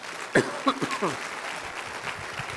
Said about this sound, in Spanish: Aplauda al Rey de Reyes.